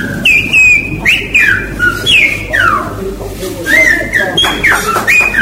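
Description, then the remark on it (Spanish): A loud human whistle in Silbo Gomero, the whistled language of La Gomera, carries a message in a string of gliding, rising and falling tones, phrased like speech, with a low background rumble underneath. “Y ante la carencia de servicios telefónicos en esa época, los gomeros recurrieron a silbar. Aún hoy se mantiene esta tradición de esta forma.”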